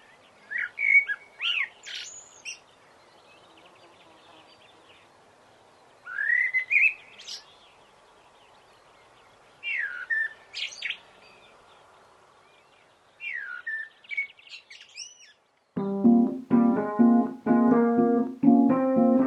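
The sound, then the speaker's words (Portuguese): Small birds chirp and twitter in quick bright bursts every few seconds over a faint steady background hush, a bird-sound texture created in a home setting, until a different tonal, harmonic sound takes over near the end. “Crio uma textura sonora no meu ambiente doméstico que me transporta para um jardim pleno de passarinhos, etc.”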